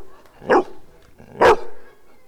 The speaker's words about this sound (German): Und am tollsten fand ich am Hörspiel, dass wir im Park waren und den Schulhund aufgenommen haben.